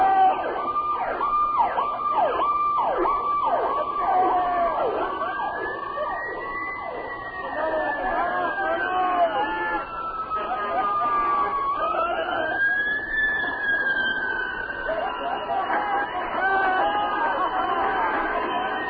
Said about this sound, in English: Okay, I want to hear the siren.